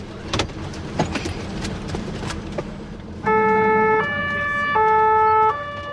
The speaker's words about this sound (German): Mit Blaulicht und Sirene geht es ab ins Unispital.